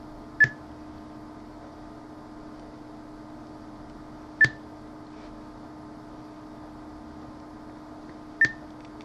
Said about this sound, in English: as the beeps continue to get higher and higher pitched. And it's done.